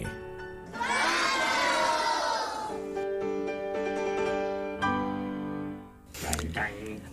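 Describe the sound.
A crowd, including children's voices, shouts a name loudly and together before a film screening at the Cine de Radio Ombligo, Foro Cultural Descartes, behind the cathedral of Tuxtla de los Conejos, in a sustained burst, then keeps calling out in drawn-out voices before trailing off into a brief noisy clatter.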